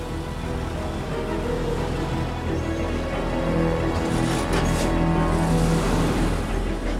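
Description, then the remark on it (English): A bus engine rumbles steadily, building in low droning tones as the bus reverses out of its parking place and sets off from the Shanghai quayside, with some hissing higher noise midway through and no voices. “The bus reverses out of its parking place.”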